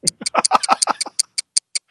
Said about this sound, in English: Anyway, I know you're in Melbourne and you're clearly loving it, but can you hear the ticking there that I can hear? I can. It's got to be the one and only Doom Clock.